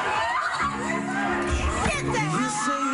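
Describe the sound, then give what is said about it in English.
Wedding guests in Orlando erupt in excited shouts and cheers as their wedding is crashed, overlapping voices rising together in a loud, sustained burst with several high-pitched exclamations standing out. “They literally crashed a wedding. Listen to people's reactions.”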